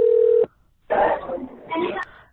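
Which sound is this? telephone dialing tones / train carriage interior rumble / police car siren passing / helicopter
telephone dialing tones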